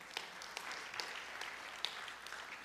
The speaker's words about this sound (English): Thank you for applauding my forgetfulness.